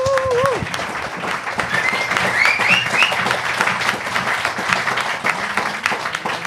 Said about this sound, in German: Also fetten Applaus bitte für die vier.